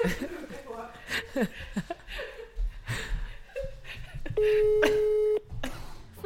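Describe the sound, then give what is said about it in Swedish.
People chat and laugh, then a loud, steady busy-signal tone on a phone call sounds once for about a second, before talking resumes. “Han är förmodligen upptagen.”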